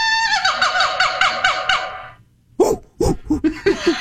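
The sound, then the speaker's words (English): A person imitates a monkey with a quick run of about seven pitched, wavering hoots, then after a short pause lets out several louder, choppy, breathy bursts. “Yeah, do a monkey.”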